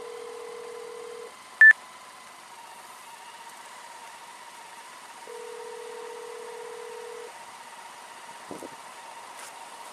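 signal or alarm, telephone keypad dialing tones

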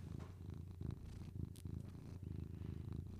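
animal, cat purring

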